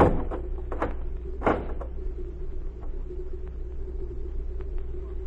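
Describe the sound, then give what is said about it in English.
A heavy wooden barn door bangs shut with a sharp thud near the start, followed by faint rattles and knocks over a low, steady rumble. “Then get in the barn and keep quiet. You get in there with her. Hurry, I haven't time to talk. All right. Close the door.”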